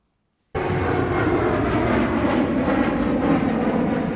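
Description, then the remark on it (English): A steady, loud roar of passenger jet engines starts abruptly after a brief silence and holds continuously: South African Airways airliners landing at O.R. Tambo International Airport in Johannesburg, South Africa. “These are some of the dozens of South African Airways SAA planes landing at O.R. Tambo International Airport in Johannesburg and likely to get grounded starting Friday.”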